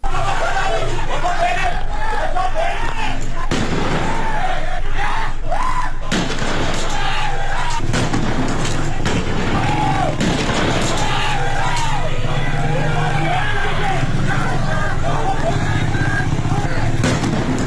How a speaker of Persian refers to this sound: در قهدریجان در استان اصفهان خبرها حاکی از صداهای تیراندازی و انفجار همزمان با تظاهرات بود، تا آنجا که شهروندان از صحنه‌های جنگی در این شهر سخن گفتند.